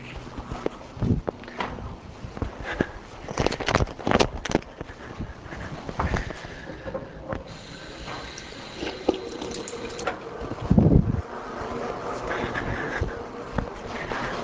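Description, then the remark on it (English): Water is poured into a glass, a steady splashing trickle broken by a few sharp clinks and knocks, with no one speaking. “I need some water. I'm sorry, I'm very dry now.”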